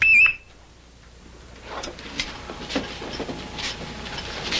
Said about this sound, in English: How many times a week does this alarm go off? 3, maybe 4. 1 week, 8 times. They go upstairs. Folks around here act like having that thing hooked up in your basement's a normal way to live. I don't like staking my whole life on one little buzzer.